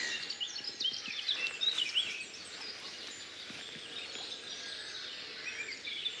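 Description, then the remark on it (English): Blackcaps singing amid a dense chorus of other birdsong, with bright warbling phrases that are busiest early on, then a steady, softer outdoor wash of chirps and trills. No voices. “And I'm now going to shut up and hope you can enjoy the blackcaps that are singing around here.”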